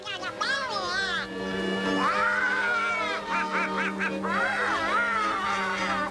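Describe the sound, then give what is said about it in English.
A raspy, nasal cartoon duck voice of the Donald Duck cartoon character, who made his film debut in 1934, quacks and squawks in a rapid, garbled stream of duck-talk, loud, with wavering pitch and a few short choppy bursts. “Donald Duck appeared in Walt Disney's The Wise Little Hen and would become one of Disney's most beloved characters”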